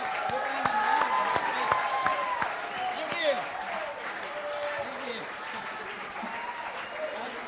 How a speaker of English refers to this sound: Another round of applause for ….